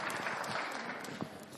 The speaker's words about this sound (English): please give a warm round of applause to Father Nathan